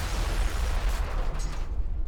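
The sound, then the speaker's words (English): A loud explosion from a car bomb in Frankie DeCicco's car on the street outside a club, heard as a deep, sustained roaring rumble with broad noisy crackle that barely fades over two seconds, no voices present. “Sammy heard the explosion from inside the club.”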